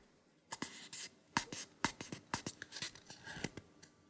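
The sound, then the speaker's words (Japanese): A paper cup, about to be used for urinating into like a urine sample, is handled, giving a quick run of crisp rustles, scrapes and light taps over a few seconds, with no voices. “紙コップを使って、検尿風に、おしっこしていきたいと思います。”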